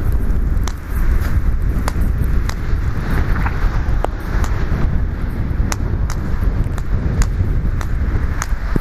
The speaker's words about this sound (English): Oh, the wind's blowing. That's probably not going to be a good idea. Oh, we'll find out.